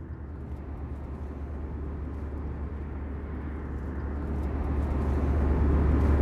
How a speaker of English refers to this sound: Okay, we're on an airplane flying from Toronto to New York.